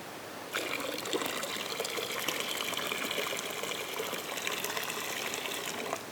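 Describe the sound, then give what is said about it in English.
Water flows steadily, a continuous rushing, splashing stream that begins after a brief quiet moment and keeps up without pause. No voices are heard. “In a world dry and thirsty, living water flows.”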